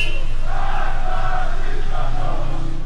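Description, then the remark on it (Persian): Protesters chant slogans in unison on 20-Metri Javadieh street on Friday 13 Aban 1401, voices blending into a loud, steady roar with rhythmic swells and no clear single speaker. “جمعه 13 آبان 1401 20 متری جوادیه، بچه ها دارن شعار میدن.”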